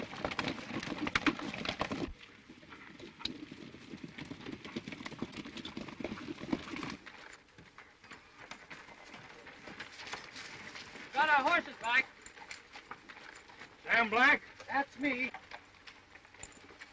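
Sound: horses' hooves clip-clopping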